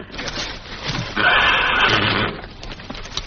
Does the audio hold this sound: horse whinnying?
yes